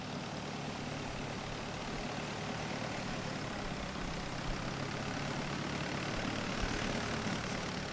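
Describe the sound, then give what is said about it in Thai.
A long-tail boat carrying foreign tourists on a sightseeing trip along Khlong Bangkok Yai canal drones steadily for the whole stretch, a rough, throaty motor roar with broad hissing noise on top, holding a fairly even loudness with no voices. “เห็นคูน้ำกว้างอยู่เบื้องล่างเป็นฉากหลังถ่ายรูปของเรือหางยาวที่รับนักท่องเที่ยวต่างชาติล่องดูเมืองตามสองฝั่งคลองลำแล้วลำเล่า”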